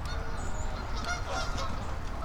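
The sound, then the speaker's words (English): A large flock of hundreds of geese, with mallards mixed in, honks continuously on a big melted area of ice, many overlapping calls forming a dense, busy chorus over a steady low rumble, with no one speaking. “Look at all these honkers. Oh my god. Let's listen to them honk.”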